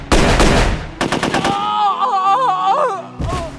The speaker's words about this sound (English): The lethal burst of fire slammed into Ho at waist level, shredding the wooden doorframe he was clinging to.